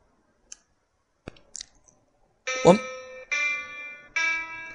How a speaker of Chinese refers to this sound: 好，这个就是我们在进入倒数三分钟的时候的一个声音的提示，您就知道这个倒数的时间已经开始进入倒数的第三分钟。